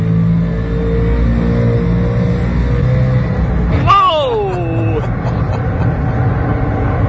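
A race car in a driving simulator: the engine drones loudly and steadily throughout, and partway through a sharp squeal of tires cuts in and slides downward in pitch for about a second before the roar carries on.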